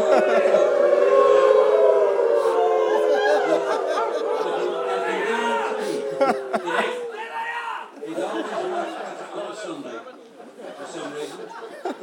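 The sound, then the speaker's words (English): A person imitates a wolf howl: a long, loud, wavering tone that slowly slides downward for several seconds, followed by chatter and laughter from a group. “And it sounds like a wolf howl, and it does work.”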